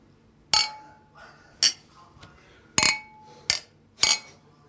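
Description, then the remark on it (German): Beer glasses clink together five times in quick, uneven succession in a toast, bright ringing chinks, with faint murmuring voices between the hits. “Zum Wohl. Prost, Herren. Klautschen. Zum Wohl. Prost.”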